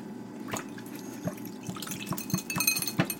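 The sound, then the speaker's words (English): Rain dripping steadily, with a scattered, irregular patter of sharp watery drops over a soft continuous wash, a few louder splats standing out. No voices. “And he saw that it was raining, but he had forgotten his umbrella.”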